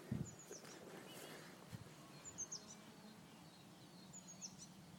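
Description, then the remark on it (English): Outdoors in a village on a damp, spring-like day, a bird chirps faintly in short bursts, three brief calls spaced a couple of seconds apart, over a low, steady background rumble. “Anyway, there seems to be less planes going over, less cars on the road, more birds singing.”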